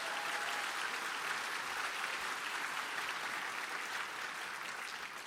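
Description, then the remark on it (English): A crowd claps steadily for about five seconds in a round of applause for the Road to DevCon communities, a dense, even wash of many hands with no pauses, tapering only slightly at the end. “So please, can I get a round of applause to all the Road to DevCon communities that made this possible?”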